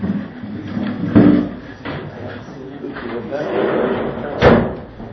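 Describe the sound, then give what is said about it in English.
A door thuds shut, followed a few seconds later by a second solid knock or latch sound as it is locked, shutting garbage inside a room, against a murmuring background with faint voices. “Now we've safely locked the garbage in the room.”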